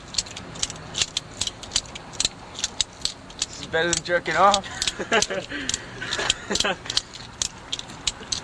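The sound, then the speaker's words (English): A knife being flicked open and shut over and over, making sharp metallic clicks at an uneven, rapid pace, while a man talks briefly partway through. “We'll push the knife and flick it back again.”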